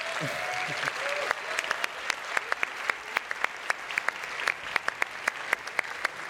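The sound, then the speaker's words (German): An audience claps steadily for everyone who went up on stage, with dense, crackling applause that holds at a moderate level; sharper individual claps stand out as the clapping thins slightly toward the end. Brief voices murmur at the start. “Bitte einen großen Applaus für alle, die sich auf die Bühne getraut haben.”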